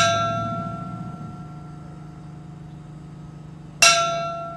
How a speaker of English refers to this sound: And just after 3 in the afternoon, precisely 1 year after the Upper Big Branch Mine erupted, a bell outside the church began to chime.